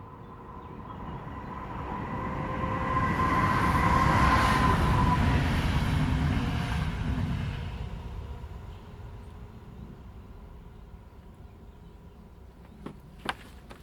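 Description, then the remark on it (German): A train rumbles past on a busy railway, swelling to a loud broad roar with a steady metallic whine, then fading away over several seconds, followed by a couple of faint clicks. “eine Eisenbahn mit regem Verkehr und ein Durchgang unter der Eisenbahnbrücke.”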